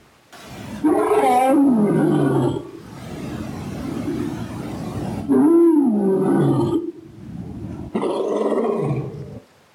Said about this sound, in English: So I thought I'd just throw in a nice sound effect for you. Lion roaring. So lions roar mostly at night, but their sound can be heard up to 5 miles away. And apparently they roar so that they tell other lions where they are,